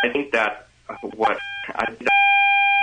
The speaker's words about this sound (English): we literally can't understand you because the beeping is too much. Do you know what's causing the beeping?